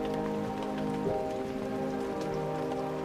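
Steady rain patters on a surface without pause as a distant thunderstorm rolls in across the night sky, a low rumbling undertone beneath the even, hissing downpour. No one speaks.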